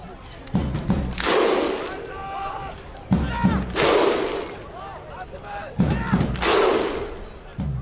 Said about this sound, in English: The thunder clap? Oh, yeah. The Viking clap?